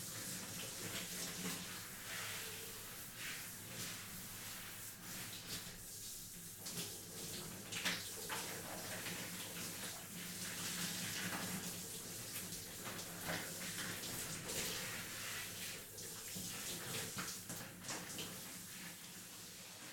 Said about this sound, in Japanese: それではシャワーで泡を流していきますね。